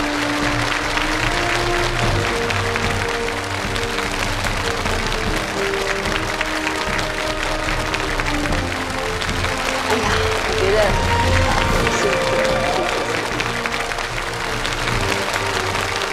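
Sustained audience applause welcoming a guest, a dense steady patter of many hands clapping at an even loudness for the whole stretch, with some music-like tones humming underneath.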